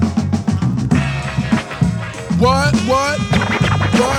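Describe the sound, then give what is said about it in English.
Rapid DJ record scratching cuts back and forth in quick rising and falling sweeps over a steady, loud hip-hop beat with a thumping bass line. “Scratch it up one more time.”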